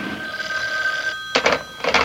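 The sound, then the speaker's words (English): The boss's hotline telephone rings with a bright, steady electronic tone, then after a brief pause repeats in short, sharp bursts. No voices are heard. “Oh, the boss's hotline.”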